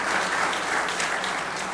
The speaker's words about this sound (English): Round of applause, I'd say, as a thank you.